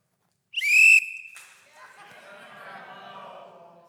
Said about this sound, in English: But if I had to blow the whistle more than three times in any gathering, than no treats, because I always gave treats at the end.